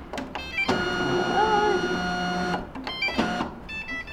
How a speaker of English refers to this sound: So I just turned on the Columbia graphics embosser.